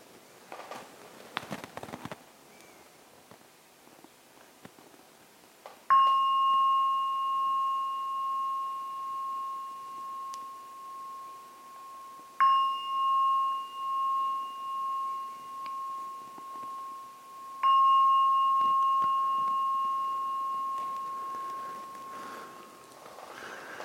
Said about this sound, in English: Oh, now ring the gong 3 times. When the gong finishes sounding for the 3rd time, it is a signal to come out from the meditation.